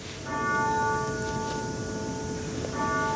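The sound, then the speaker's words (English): A grandfather clock that once belonged to Edith Wilson chimes with rich, sustained ringing tones, one strike lingering and humming before a second strike sounds near the end. No one speaks. “She knows to wait for the grandfather clock to finish ringing.”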